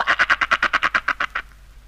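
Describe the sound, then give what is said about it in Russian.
A frog croaks in a quick, even burst of about a dozen raspy pulses over just over a second, fairly loud, then it falls silent. “Она уж никак не могла удержаться, чтобы не квакнуть хоть разик.”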